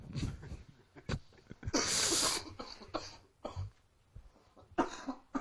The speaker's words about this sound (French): C'est gentil de nous avoir amené ta grippe. Ah bah oui, ça. Oui, Albanel, ça fait tousser.